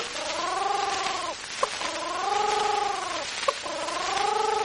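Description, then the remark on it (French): A human voice imitates a pigeon's coo in three long, wavering hums, each about a second, separated by short pauses with faint clicks, moderately loud. “La pigeonne fait gentille.”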